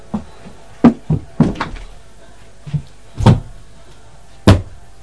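door being shut

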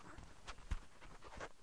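dog panting heavily

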